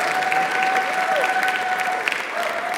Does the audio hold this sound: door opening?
no